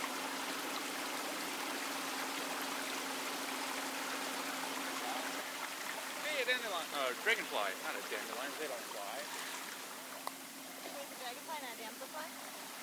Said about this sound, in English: Okay, with that, here we go. On to the Wisconsin River on a pontoon boat.